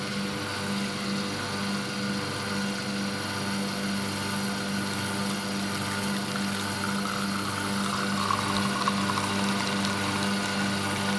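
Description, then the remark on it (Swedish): An espresso machine's pump drones steadily with a low mechanical hum and rattling buzz as coffee brews from freshly ground dark-roasted beans pressed into a holder, after the button is pressed; liquid gurgles through, continuous with no talking. “Pressar ner dem i en hållare som han med ett knyck sätter fast i kaffemaskinen. Och trycker på knappen.”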